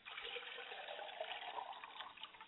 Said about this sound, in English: And finally, I pour libations to the south, and we say, Ashe. Ashe. And ladies and gentlemen, I periodically let the water hit the ground so that wherever the water falls, the ground will be fertile, and the word will take root and spring up and grow